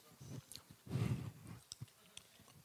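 A small breath mint is crunched between teeth: one loud grinding crunch, then a run of softer crackly bites and sharp little clicks, with no talking.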